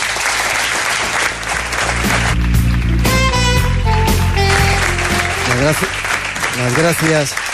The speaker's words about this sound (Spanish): Gracias. Os pido otro aplauso para vosotros.